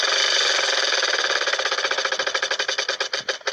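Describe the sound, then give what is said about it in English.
A prize wheel spins with a rapid, steady clatter of ticks that gradually slows into distinct, spaced clicks as it winds down, with no talking over it. “All right, let's spin the wheel one more time, see what we got here.”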